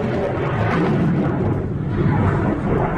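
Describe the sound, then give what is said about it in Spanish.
A loud, deep rumbling roar from an Israeli air force missile strike on the Beirut suburb of Jared Jerey, Lebanon, fills the whole stretch, a sustained low boom with no sharp start or clear end, and no voices. “La aviación israelí no tardaba en responder con misiles en Beirut.”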